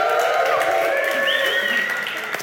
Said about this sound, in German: Kleiner Applaus für André